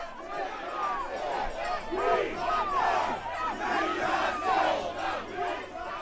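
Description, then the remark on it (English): A large crowd of Occupy movement demonstrators in a cordoned-off demonstration area shouts slogans together, competing with Republican candidate supporters, with bullhorn sirens; many voices overlap in loud, continuous yelling that rises and falls in waves throughout. “But when the procession entered the cordoned-off demonstration area, silence gave way to slogan shouting and bullhorn sirens as the demonstrators competed with Republican candidate supporters.”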